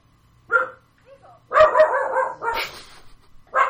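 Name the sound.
dog barking excitedly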